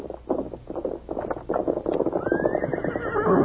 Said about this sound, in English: "Horse coming." "Yeah, that's probably Tonto. I'll open the door and see."